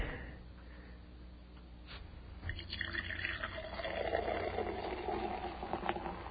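Soda is poured, a steady fizzy bubbling hiss that swells after a quieter start and keeps crackling, with no voices.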